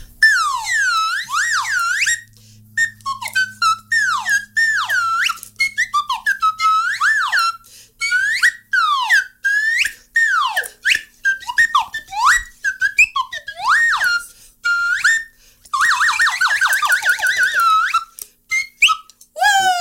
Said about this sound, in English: But we have lots of different materials to make things out of, especially whistles. This is a slide whistle, and it has a metal slide and a plastic body.